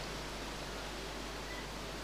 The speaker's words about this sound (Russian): Ну, я вижу, что вы отвечаете, но дождь не дает услышать ваши ответы.